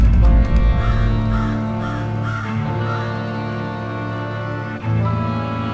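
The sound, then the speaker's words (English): Blackbirds caw in a loose series of harsh calls over a steady, droning background, moderately loud, with no one speaking. “I saw blackbirds this morning. I counted eight.”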